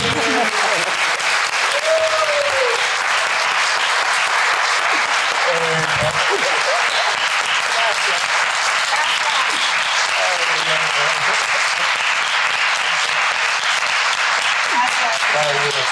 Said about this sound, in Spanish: Le damos otro aplauso